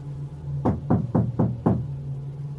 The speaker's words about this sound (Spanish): Esa misma noche, ya cerca de las 3 de la mañana, me despertó el sonido de alguien tocando mi puerta.